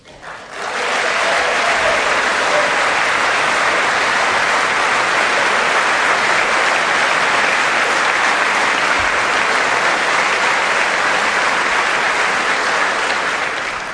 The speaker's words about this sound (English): Now, I played that applause line, and it did go a long time because in State of the Union addresses, you know, it's just it's traditional for a lot of long clapping on different parts of speeches.